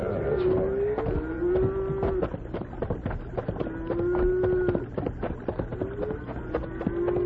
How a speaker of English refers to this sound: You hear that herd of cattle?